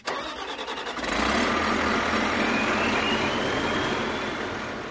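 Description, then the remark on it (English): A huge logging machine with a mechanical arm wielding a claw and circular saw clear-cuts lodgepole pines and fir trees on a slope of Elk Mountain in Carbon County. Its diesel engine sputters through a second of rapid pulses, then surges into a loud, steady roar with a thin high whine rising above it. No one speaks. “On a densely wooded slope of Elk Mountain in Carbon County, a huge logging machine sets about clear-cutting a stand of lodgepole pines and fir trees.”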